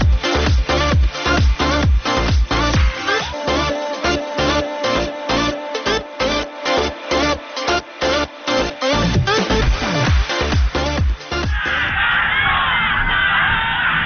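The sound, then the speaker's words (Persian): A large crowd during the Iranian revolution chants revolutionary slogans in loud, rhythmic unison, the shouted phrases repeating in a steady beat before the chanting gives way to a wash of crowd noise and cheering. “چه بساطی بوده ها ددی، چه شعارهایی میدادن ها.”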